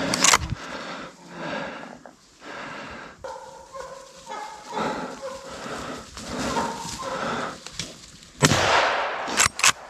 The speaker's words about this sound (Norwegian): Ja, jag sköt hona. Men det var ju för fan 3 ungar med.